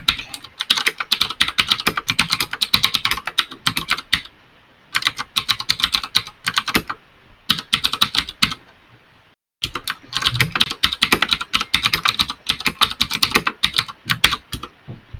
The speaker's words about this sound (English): That's quite a noisy keyboard you've got there